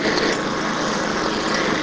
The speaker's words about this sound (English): Weed whacker and lawnmower